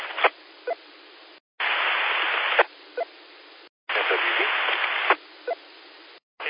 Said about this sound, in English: You got a lot of white noise, and I heard your voice, but I couldn't make out what you were saying.